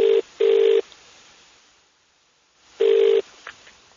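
Telephone line tones as a call is placed to ring someone back: a steady mid-pitched buzzing tone in a quick double burst, a pause of about two seconds, then another burst, with no voices.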